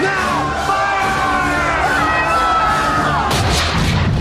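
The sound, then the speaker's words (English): Booming ship cannon fire, broadside to broadside between two vessels just meters apart, rolls through a loud, chaotic battle, with heavy blasts bursting out near the end over a crowd of men yelling and shouting throughout. “Cannons fire broadside to broadside, the vessels just meters apart.”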